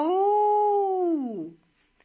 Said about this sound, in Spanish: Un aullido lo conmovió.